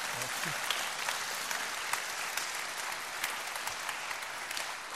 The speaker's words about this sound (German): Wir geben dir einen herzlichen Applaus. Danke.